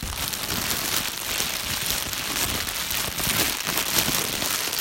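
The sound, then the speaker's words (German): A fire crackles in a wood stove at home, steadily with dense, irregular pops and snaps over a soft, continuous hiss, holding an even loudness throughout with no voices. “Zu Hause angekommen, lauschten sie dem Ofen knistern.”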